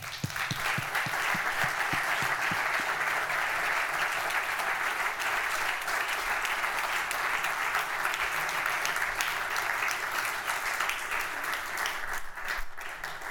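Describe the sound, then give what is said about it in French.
An audience applauds steadily, a dense, even wash of many hands clapping that holds at a constant loudness for the whole stretch, with no voices on top. “Merci beaucoup, on vous applaudit.”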